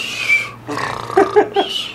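Someone snoring: a few short, rough, snorting breaths come in a quick uneven rhythm, low and gravelly, after a steady faint hum.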